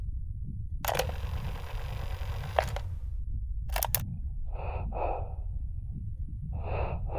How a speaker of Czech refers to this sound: To je dýchání. Ten dům dýchá? No ano, jistě.